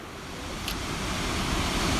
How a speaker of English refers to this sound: Burney Falls has to be one of the most immense waterfalls and most beautiful natural falls I have ever seen. This thing kicks it out of the stadium, bro. It's so sick. Burney Falls stands at 129 foot, and the pool at the bottom is 22 foot deep.